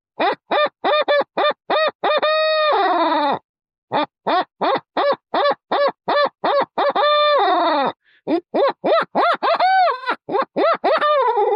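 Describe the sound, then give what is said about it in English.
A reed-style owl hooter blown to imitate a barred owl in a quick run of the call: loud bursts of rapid, clipped hoots broken by a few longer, drawn-out wailing notes, with no talking. “So there's a barred owl, and that's what it'll do.”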